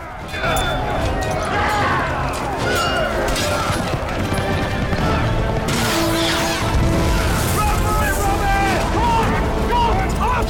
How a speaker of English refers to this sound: Soldiers surround them, then Archer rides past and fires a burning arrow which explodes on impact, giving them the chance to fight for freedom.